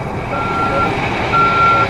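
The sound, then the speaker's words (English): An arriving crane truck, there to get a boat into the water once good weather returned after Hurricane Dean, sounds its reversing alarm: two sustained, steady high-pitched beeps over a loud, continuous diesel engine rumble. “Here comes a crane.”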